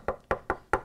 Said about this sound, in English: Maybe you'd better knock on her door.